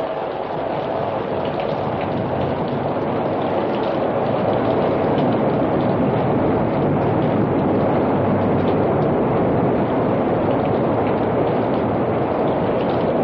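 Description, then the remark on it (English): A steady, loud roar of rushing floodwater fills the whole stretch, a dense churning wash that never lets up or changes pace, with no voices over it. “Here comes the water.”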